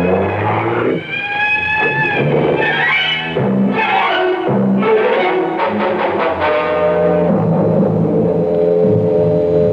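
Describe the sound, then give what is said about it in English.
A car engine revs hard and roars away, tires squealing as the driver burns rubber to get away fast, loud with rising, wavering pitch throughout. No one speaks. “He's getting back in his car. Get the license number.”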